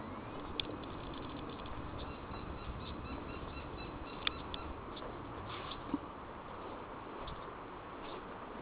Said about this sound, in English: Sounds like we're at the zoo with all these little tropical birds.